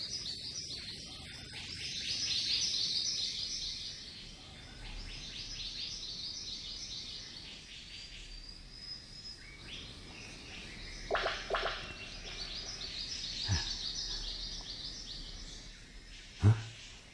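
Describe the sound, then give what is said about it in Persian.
Outdoor birdsong from a bird at its nest, repeated chirps and calls over a soft background hum of insects; a few sharp clicks or knocks punctuate the calls. Filmed from a camouflaged hide at 6:30. “صدای پرنده بیرون میاد.”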